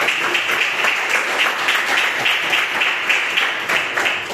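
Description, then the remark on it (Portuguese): A church audience applauds to glorify Jesus after a sermon, a dense wash of many hands clapping at once, sustained and fairly loud throughout with no voices standing out. “E eu agradeço a oportunidade e as palmas que glorificam o Senhor Jesus.”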